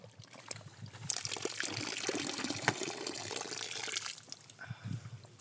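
Water pours and trickles steadily for a few seconds, a close, hissing stream of liquid that starts abruptly and tapers off into quieter dribbles and small handling noises.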